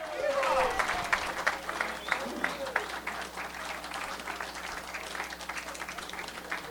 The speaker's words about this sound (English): I want you to put a big round of applause together for